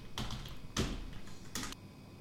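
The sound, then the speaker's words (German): Clattering bursts of typing on an IBM computer keyboard, three quick clusters of key presses, fairly quiet with a faint hum underneath and no voices. “Was ist das für eine Tastatur, was Sie haben?”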